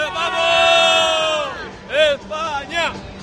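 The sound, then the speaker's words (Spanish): Spanish fans shout together in a long, sustained cry that slides downward in pitch, then break into loud, rhythmic chants of the name of Spain with a steady babble of voices underneath. They are cheering at a women's match that Spain leads 8-2. “Sí, señor, y aquí estoy junto a unos españoles que gritan y corean el nombre de España.”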